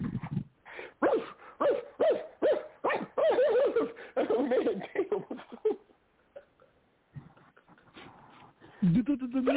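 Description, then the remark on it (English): A dog barks in a rapid, loud series of hoarse, hooting yelps for several seconds, then falls quiet; faint murmurs follow and a low voice sounds at the very end. “You don't stop that damn barking.”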